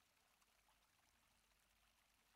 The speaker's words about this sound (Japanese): 深い深い森の中、このポプリみたいな香りが充満してる。目を閉じると雨音のように聞こえる川のせせらぎ。